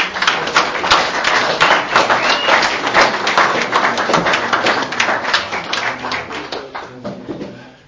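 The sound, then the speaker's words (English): A crowd applauds the mayor with steady, dense clapping that stays fairly loud for several seconds, then thins slightly toward the end. No one speaks over it. “So if you guys can give him a round of applause.”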